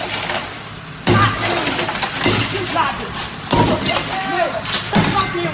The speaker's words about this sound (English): So a woman in Chattanooga, Tennessee tried to stop a repo man from towing her car, and she got so angry that she started smashing his tow truck with a baseball bat.